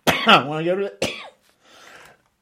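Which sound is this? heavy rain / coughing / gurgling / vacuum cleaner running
coughing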